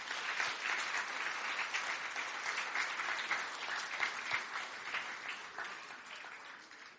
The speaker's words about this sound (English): Thank you. A big round of applause for my helpers there.